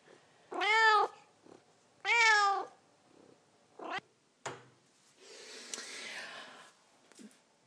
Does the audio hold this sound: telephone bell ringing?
no